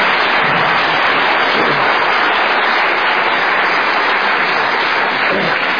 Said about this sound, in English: But I don't think they give him a warm South African round of applause.